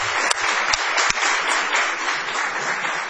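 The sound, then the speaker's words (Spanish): Steady, dense applause from a studio audience at Radio del Plata fills the whole moment, loud, with a few sharper individual claps popping out above the continuous wash. The audience is applauding to greet the show's host. “Vamos a extender el aplauso para saludar a Patricio Barton.”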